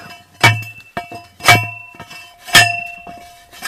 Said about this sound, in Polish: Odgłos, który Państwo słyszą, to metalowy, cylindryczny kafar służący do ręcznego wbijania tych pali.